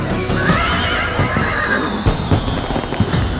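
A horse gives a long, loud whinny, its shrill voice wavering and sliding downward over a few seconds, with some low thumping and a steady background bed underneath.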